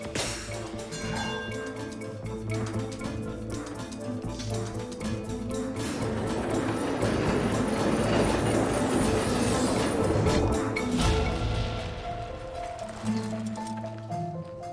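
A passenger train rolls along with a steady, rhythmic clickety-clack of wheels on the rails, the rumble swelling louder mid-clip before easing slightly, with no voices present.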